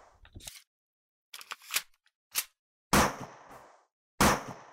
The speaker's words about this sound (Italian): Il suo legno serve per fare le selle dei cammelli, i fiammiferi e le cariche dei fucili che sparano a salve quando gli uomini blu fanno festa in allegria.